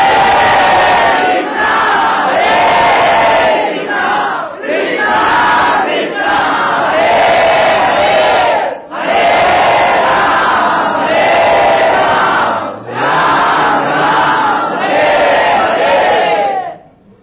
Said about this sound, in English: they all, either with devotion or sheerly ritualistically, they go to the river Ganges or whatever holy body of water there may be, Jamuna, ocean, and they submerge themselves, and very, very loudly they all chant the Hare Krishna Maha Mantra.